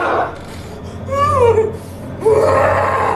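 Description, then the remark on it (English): A woman wails and screams in two long, strained vocal bursts with pitch swoops, loud and close, over a low rumbling background. “Now she's screaming and shouting. The demon's coming out of her, right?”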